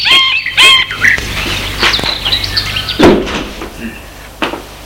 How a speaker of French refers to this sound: Bien, vous pouvez entrer. Elle entend des cliques de la porte. Elle entre.